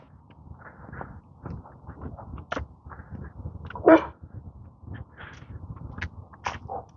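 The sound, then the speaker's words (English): Neighborhood dogs bark in scattered, irregular bursts, with one sharp louder bark standing out among fainter yips and a low background rumble. “Every dog in the neighborhood.”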